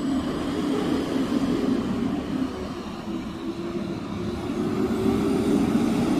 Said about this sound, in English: And here comes a garbage truck.